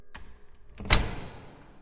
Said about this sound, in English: Okay, so everybody is inside. Yep. Door shut.